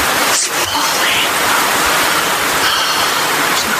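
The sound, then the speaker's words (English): A steady, dense hiss of rain pours down at night in gardens without pause, loud, filling the whole moment with an even wash of watery noise. “Feel the rain.”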